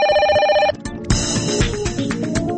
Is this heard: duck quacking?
no